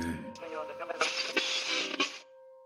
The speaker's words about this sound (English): Alan's ears tuned in towards the sound of the radio static